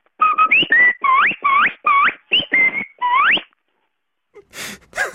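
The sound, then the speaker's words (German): A person whistles a short, loud melody of about eight quick notes, several sliding upward, a particular tune used to call others to lunch. A breathy inhale follows at the end. “ich habe da eine bestimmte Melodie und immer, wenn ich die Melodie pfeife, dann wisst ihr, ja, es gibt zu Mittag.”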